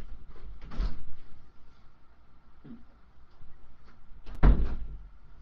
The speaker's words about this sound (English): Sorry, that door's just rattling and rattling. I thought maybe the cat was trying to get in.